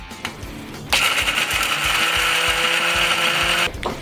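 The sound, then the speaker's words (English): A blender roars to life and blitzes crispy, drained and dried bacon into bacon dust for about three seconds, a loud steady high-pitched whir with a rattling low pulse, then cuts off abruptly. “So once the bacon has dried, just put it in the blender and blitz it.”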